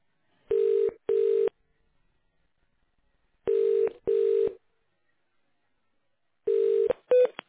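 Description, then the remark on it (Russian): Tones of the internal automatic telephone exchange of the Federal Tax Service office for Saint Petersburg: three pairs of short, steady mid-pitched beeps, evenly spaced with silent gaps between, clear and alone with no talking. “Вы позвонили на внутреннюю автоматическую телефонную станцию управления Федеральной налоговой службы по Санкт-Петербургу.”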